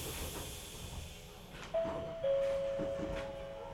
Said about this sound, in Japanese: この電車は各駅停車の松江新宿温泉行きでございます。